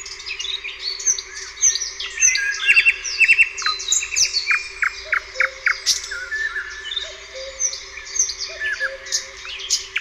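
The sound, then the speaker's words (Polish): Rich, varied nightingale song fills the air: rapid trills, repeated notes and sharp whistled phrases pour out continuously, with other birds chirping faintly in the background. No one speaks. “I głos słowika jest na tyle skomplikowany, żeby go przełożyć na takie słowa. No najlepiej go usłyszeć.”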